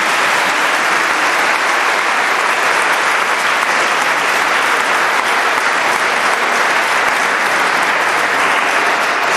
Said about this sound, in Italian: Un caro saluto al nostro Vescovo e a tutto lo staff della Pastorale Giovanile Diocesana. Facciamo un applauso a tutti quanti.